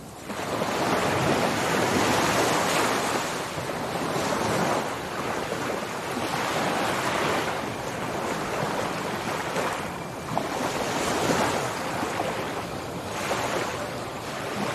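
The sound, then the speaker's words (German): Steady Pacific Ocean surf rolling onto the beach at Puerto Escondido, Mexico, a sea turtle nesting beach: a loud continuous wash of breaking waves that swells and recedes every few seconds, with some wind noise and no voices. “für einen weiteren Moment dieses wunderbare Glücksgefühl hier an der mexikanischen Pazifikküste in Puerto Escondido, der Geburtsstrand der Meeresschildkröten.”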